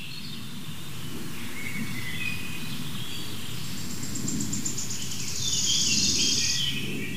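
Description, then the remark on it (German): A bird sings outdoors in short high whistles and then a brighter rapid trill near the end, over a steady low background rumble, with no one talking. “Das ist der Vogel, der sich so krass bewegt.”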